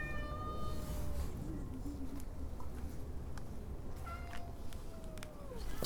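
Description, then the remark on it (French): A black cat meows twice in the rain in long, drawn-out calls, once at the start and again near the end, over a steady hiss of background noise with no talking. “On voit que le chat noir, là.”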